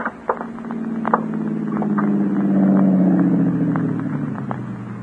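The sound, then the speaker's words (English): A car engine drones steadily as the vehicle drives up a narrow, dusty roadway leading to a newly built, almost completed dam, swelling louder midway, with scattered crackles and pops from tires on loose ground. No one speaks. “He had no way of knowing, of course, that because of that car, its occupant, a new and never-to-be-forgotten chapter in his life was about to be written.”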